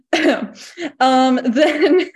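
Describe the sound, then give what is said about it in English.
A deliberate, voiced cough, a few throaty bursts in quick succession that sound partly like exaggerated throat clearing, loud and alone with no talking. “Sorry, that was my cough to notify that someone's going to be dying.”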